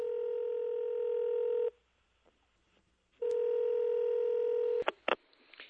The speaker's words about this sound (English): Do you hear a phone ringing?